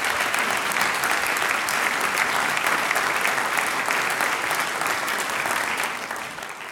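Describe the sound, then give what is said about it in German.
An audience at a singers' and musicians' meeting (Sänger-Musikanten-Treffen) applauds steadily for the Hügelhörner, a dense wash of many hands clapping at a loud, even level that starts to fade slightly near the end. “den Hügelhörnern und dir einen Applaus und Dankeschön.”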